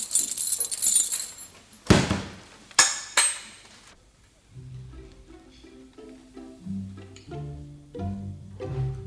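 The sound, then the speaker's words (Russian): A bright jangle of library keys being handed over for a few seconds, with a couple of sharp metallic clinks, then soft tonal music takes over. “Ах, да, мы заговорились. Вот ключи.”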